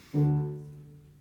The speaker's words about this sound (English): So if you play like some chords and do it without the sustain pedal, it'd sound like this.